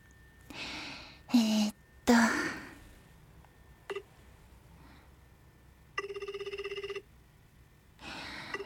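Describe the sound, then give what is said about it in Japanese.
A single electronic phone ringing tone, a steady buzzing burst lasting about a second, amid soft breathy sighs and brief noises, with no clear speech, as someone places a phone call and waits for it to be answered. “あれ、今まだお仕事だっけ？出るかな？あ、出ないかな。あ、もしもし？”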